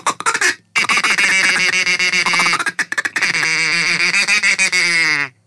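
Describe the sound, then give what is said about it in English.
A duck call is blown in rapid, insistent bursts during a radio broadcast, producing loud, nasal quacking, with brief pauses between runs of raspy calls and no talking. “You think people stop listening to the radio if we just duck called the whole time?”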